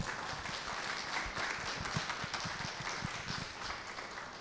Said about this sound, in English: So thank you for you both, and maybe we can show our appreciation with a round of applause.